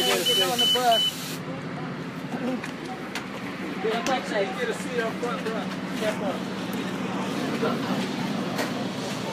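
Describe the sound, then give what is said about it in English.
A city bus idles with a steady low engine rumble while people talk as passengers board, including a blind man getting on the bus; a brief electronic beep sounds at the start. “We got a blind man getting on the bus, man.”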